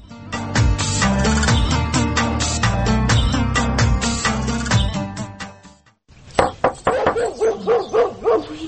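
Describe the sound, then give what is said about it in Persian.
A tied-up dog barks loudly and repeatedly, first in a dense, continuous flurry, then after a brief pause in a series of sharp, separate barks. “از برای خدا یک دفعه ای سگ ایلا نشه.”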